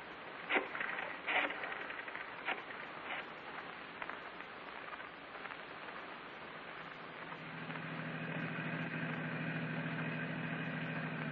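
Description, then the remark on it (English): A car engine idles with a steady low hum that grows fuller in the second half, preceded by a few sharp knocks and a hiss like rain falling on the vehicle. “Keep the engine running.”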